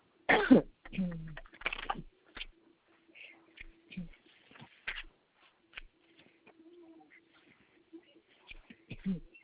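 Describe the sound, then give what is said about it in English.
A few harsh, rasping coughs burst out in quick succession at the start, followed by quieter scattered sounds and a faint steady hum, with another rough cough near the end. “They had that cough.”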